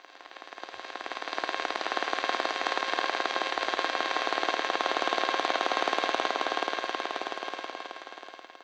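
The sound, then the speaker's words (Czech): Harsh, buzzing electrical interference from a mobile phone charger, a dense rapid crackling pulse that swells louder through the middle and fades again. No voices. “Nabíječky mobilu.”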